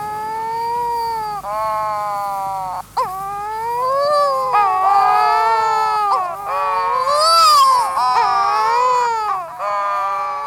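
Wedge-tailed shearwaters, courting pairs of dark, gull-sized seabirds, moan in long, wavering courtship calls, several overlapping voices rising and falling like wailing infants, loud and continuous for the whole stretch with no talking.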